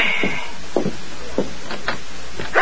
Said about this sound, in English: She rose listlessly when a soft rap sounded on the door.